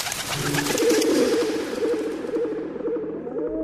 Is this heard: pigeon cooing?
yes